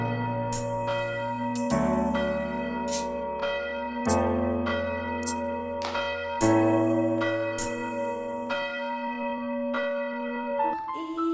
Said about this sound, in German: So lauschet nun dem Glockenschlage, Punkt 12 geschieht mein Nachtgelage.